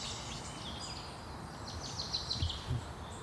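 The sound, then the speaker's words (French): High, thin songs of a chaffinch and tits overlap, with quick chirps and trills rising over a steady low rumble of ambience in a mixed beech and spruce forest. No one speaks. “On arrive à distinguer, donc il y en a, j'ai entendu le cri d'une musicienne. Un nouveau pinson. Il y a des mésanges.”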